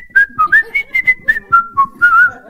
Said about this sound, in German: Und dann habe ich gemerkt, so nach ein paar Minuten, ich pfeife, ich bin gut drauf.